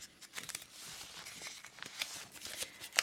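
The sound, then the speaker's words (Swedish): Quiet rustling and crinkling of small numbered paper slips in a folder being stirred and shuffled by hand to draw one for a prize draw, with irregular soft crackles over about three seconds and no talking. “Så att vi har skrivit nummer på små lappar och sedan så finns alla i mappen där.”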